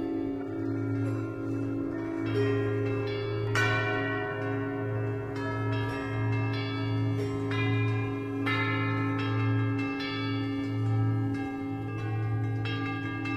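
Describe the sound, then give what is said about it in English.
A peal of cathedral church bells rings continuously, with overlapping strikes every second or so and a deep, sustained hum resonating beneath the clanging tones. No voices are heard. “Here, as a gift from the cathedral, you can create your own peal of bells.”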